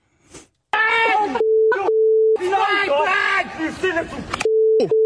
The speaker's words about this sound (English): There was the punch, so that you kind of lost it in the beep tones.